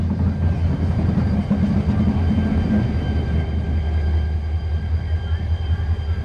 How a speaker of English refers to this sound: This methodical scene is suddenly interrupted by, of all things, a goods train shunting along this backwater to who knows where.